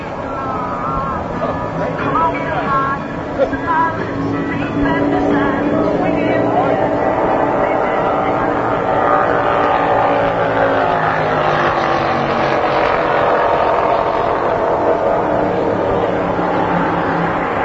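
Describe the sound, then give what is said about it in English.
A two-seat Indy car engine roars loudly and continuously at Las Vegas Motor Speedway, its pitch climbing and surging as it accelerates, with faint muffled voices buried in the noise. “I just got out of a two-seat Indy car with, as the backseat passenger, boy, I'm sure thankful they give you a steering wheel to hang on to, because that is absolutely the most incredible experience.”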